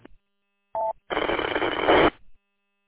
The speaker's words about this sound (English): There's a station trying to get in. I'm just hearing static. Maybe change your location slightly.